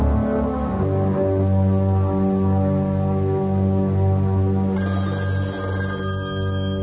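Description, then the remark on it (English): A telephone bell rings steadily and fairly loudly throughout, a sustained metallic tone with a slightly muffled, old-fashioned quality and no voices. “Herb, the phone.”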